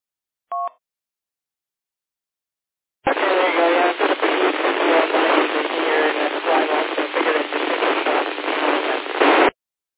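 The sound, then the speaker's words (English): A brief two-tone beep, then a few seconds of silence before a harsh, crackling radio transmission through a repeater, with band-limited static and garbled voice-like fragments running steadily for about six seconds. “You're a little scratchy, but I do hear you.”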